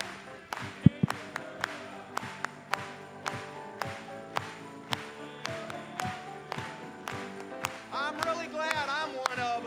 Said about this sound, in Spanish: Vamos a aplaudirle en esta mañana.